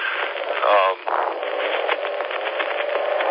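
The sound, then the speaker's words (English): Steady, loud road noise from driving in traffic, a thick continuous roar with a brief swell and dip near the start, sounding thin and muffled as if heard over a phone line. “Around some traffic there. You wouldn't have been able to hear what I was saying.”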